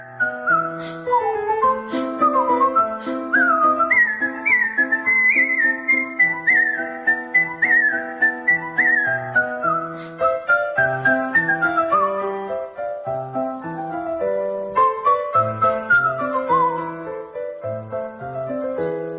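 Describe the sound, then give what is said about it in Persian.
Mozart's Turkish March, part of his Piano Sonata No. 11, whistled in quick, bright runs of notes, steady, with a low accompaniment bouncing underneath throughout, and no talking. “حالا یه اثری که تازه از موزارت زدم ترکیش مارچ، قسمتی از سونات شماره 11 پیانوی موزارت که یکی از مشهورترین آثار پیانوی موزارته.”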